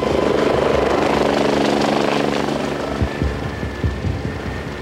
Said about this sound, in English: And I remember being put into the life flight helicopter.